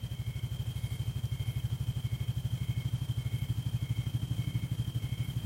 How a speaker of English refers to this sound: Here comes a helicopter. Can you let the helicopter go?